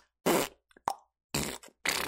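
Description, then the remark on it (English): A few loud, sputtering, raspy fart noises in quick succession, with a sharp little pop between the first two bursts and no talking. “If you go, you type in like royalty-free sound effect for your school project or something, there's a million people out there making fart noises.”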